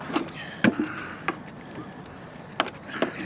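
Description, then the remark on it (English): Wooden knocks and thumps as people clamber into a rowing boat, a handful of irregular bumps and creaks over a faint, steady background hiss. “I'd better get into the boat first, Temple.”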